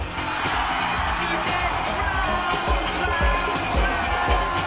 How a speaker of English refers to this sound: They're applauding the DJ. Not the music, not the musician, not the creator, but the medium. This is it. The birth of rave culture.